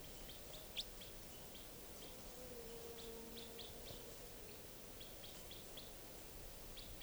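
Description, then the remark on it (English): A juvenile wild bird gives repeated short, high-pitched chirps in irregular bursts, fairly faint over a steady background hiss, with a brief lower tonal note partway through. “This is it calling.”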